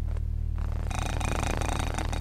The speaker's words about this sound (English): And that's the sound the buzzer makes.